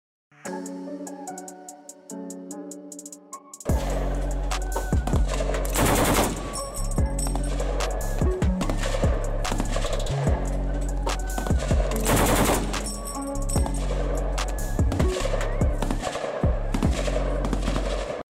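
repeated gunshots

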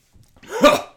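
cough

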